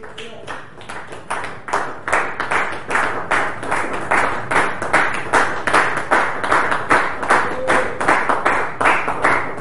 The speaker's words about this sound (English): He made your hands to produce music for him by clapping. In other words, you might not be able to play the guitar, you might not be able to play the organ, you might not even be able to drum. But you can clap.